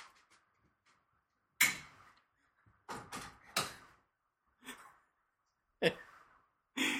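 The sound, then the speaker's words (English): A door left open creaks and knocks in several sharp, irregular bursts with quiet gaps between, bumping about as Cayenne, a boxer dog, walks through it into the kitchen, with soft shuffling movement. “My wife left the door open, and Cayenne, my boxer, decided to walk into the kitchen.”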